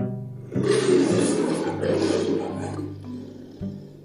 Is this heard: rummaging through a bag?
no